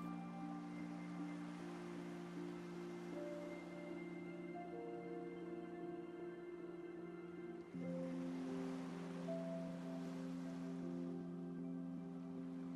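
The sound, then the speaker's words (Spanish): Gentle sea waves wash in and draw back in slow swells, blended beneath sustained, soft ambient music tones. No one speaks. “Escuchando las olas del mar que van y vienen.”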